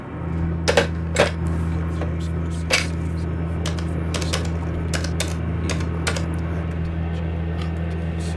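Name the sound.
typing on a keyboard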